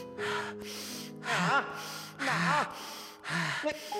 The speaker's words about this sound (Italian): Ma cosa fai? Smettila di respirare!